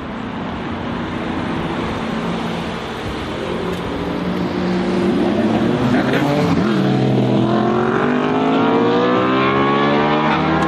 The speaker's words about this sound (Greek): Εγώ θα σου πω την εμπειρία ζωής, γιατί έχουμε ένα κινητήρα ο οποίος είναι δίπλα μας ακριβώς. Ανεβάζει μέχρι 9.000 στροφές. Ο ήχος είναι απίστευτος. Απίστευτος, ναι, αυτό.